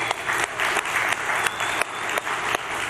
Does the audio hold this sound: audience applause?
yes